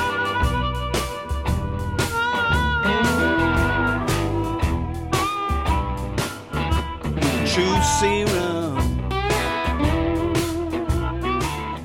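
A bluesy song plays steadily at full loudness, with a thumping beat, bass and sustained melodic tones throughout, and no one speaks over it.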